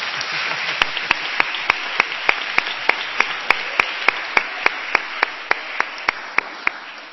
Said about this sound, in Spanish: 38 síes, un no y una abstención. Queda aprobada. Pueden aplaudir después de la aprobación. Se aplauden.